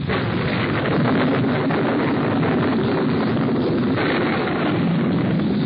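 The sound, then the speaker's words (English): Heavy thunder from a storm right overhead rolls in one long, continuous rumble, a loud, deep roar that holds steady for several seconds with no voices. “Listen to that thunder. It seems to be staying close to us, too. Storm must be right over our heads.”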